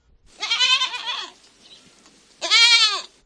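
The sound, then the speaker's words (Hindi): A goat bleats twice: a long wavering, nasal cry lasting about a second, a short pause, then a second loud bleat that rises and falls. No one speaks. “कोई बाकरी नो धन नो आवाज हम जो हो इन्हें भी खुदा ने बनायू है।”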